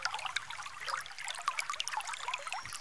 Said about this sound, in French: Pendant presque deux jours, les deux animaux longent un grand ruisseau de montagne, dans un vallon profond.